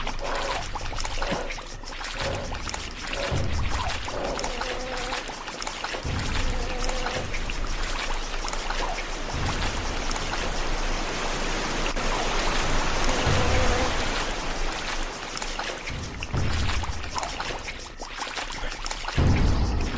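A geyser sprays water in a loud, continuous hiss and splatter, like heavy pouring rain, swelling and surging in waves throughout with occasional deeper rumbling bursts.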